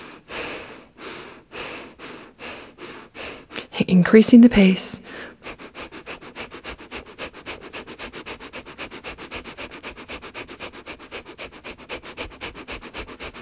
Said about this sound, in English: Gently beginning your breathing in and out through your nose.